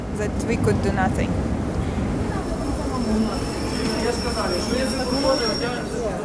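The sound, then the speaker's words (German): Busy ambience at the railway station of Lviv, Ukraine: a steady wash of crowd murmur and rumbling train noise, with faint high metallic squeals from wheels or brakes sustained in the background. “Der Bahnhof von Lviv, ein neoklassizistisches Gebäude mit einigen Jugendstilelementen.”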